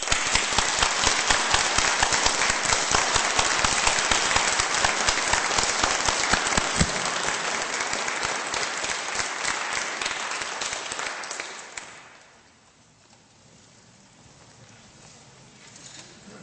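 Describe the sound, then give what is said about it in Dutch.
Loud, thunderous applause from a large standing crowd applauding the care staff of Innersdijk, a dense sustained roar of many hands clapping that keeps going strongly before dropping away to a low murmur near the end. “En ik verwacht een daverend applaus voor de mensen van Innersdijk.”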